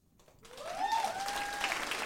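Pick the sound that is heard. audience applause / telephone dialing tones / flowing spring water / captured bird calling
audience applause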